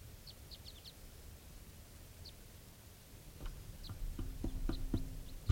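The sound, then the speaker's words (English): Faint, high wild bird calls chirp in brief scattered bursts against a steady hiss, joined later by soft low knocks and thuds. “There's wild birds to me.”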